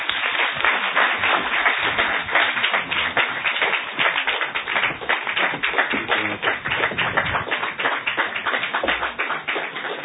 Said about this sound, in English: Thank you very much. And I expect the applause to be louder than it is right now. And thank you for giving him the standing ovation.